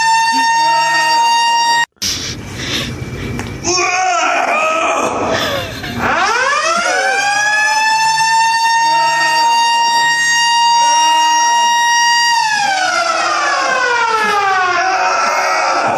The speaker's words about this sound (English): They set off that giant fire alarm in there. Come on, get real. I want to hear that again. That was awesome.